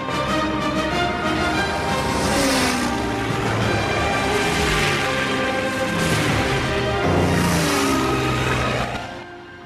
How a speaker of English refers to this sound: A ground crewman signals to the pilots to take off. The first Mustang accelerates down the desert airstrip, raising dust as it goes. As it lifts into the air, it retracts its landing gear. The other planes follow.